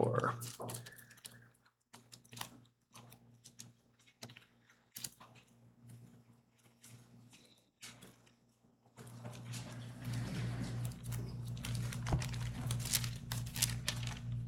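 Pages of a Bible being flipped and rustled to 2 Corinthians 4, a quick series of papery swishes and taps, followed by a steadier, denser rustling with a low background hum.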